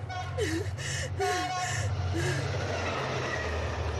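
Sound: train passing on rails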